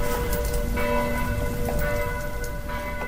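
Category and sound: signal or alarm, church bells ringing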